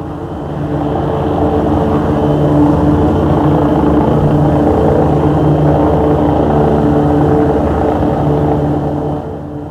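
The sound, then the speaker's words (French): A surveillance helicopter drones steadily overhead above Paris, its loud, continuous engine roar and low humming tones holding for the whole stretch with no voices. “Les hélicoptères surveillent jour et nuit, la nuit avec de gros projecteurs.”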